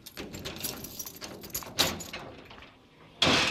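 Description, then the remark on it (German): A metal archive box or drawer being opened in a theft-proof, fire-protected archive that holds a writer's manuscripts and typescripts: rattling, scraping handling noises, a sharp clunk midway, then a loud rushing slide at the end. No one speaks. “Die Archivkästen, wenn man jetzt hier mal aufmacht, findet man zum Beispiel einen Lebenslauf.”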